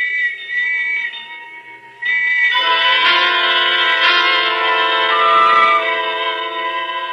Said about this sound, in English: And the whistles and bells all around.